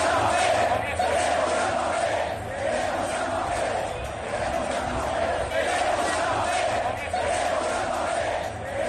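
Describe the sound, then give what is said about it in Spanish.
A large stadium crowd at Real Madrid's presentation of new signing Hazard chants "queremos a Mbappé" in unison, a dense roar of many voices with a repeating rhythmic rise and fall, loud and continuous throughout. “Hubo gritos de queremos a Mbappé, queremos a Mbappé.”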